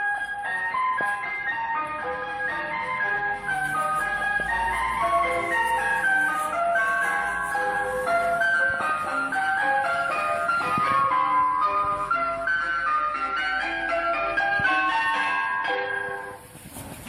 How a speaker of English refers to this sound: We'll be talking in the garden, and it's so loud. We have to pause our conversation with the ice cream van. I may try and record it, just to share that with our listeners here.